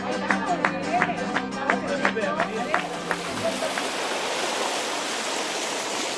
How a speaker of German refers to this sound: Die Wellen schlagen an den Strand.